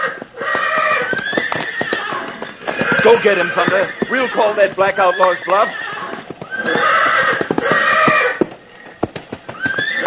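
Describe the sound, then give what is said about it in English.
Stallions, one named Thunder and a black one, let out loud, shrill, quavering neighs as they square off to fight, over a rapid clatter of clip-clopping hooves, while a man calls out briefly above the commotion. “Seems our friend the stallion is on the warpath.”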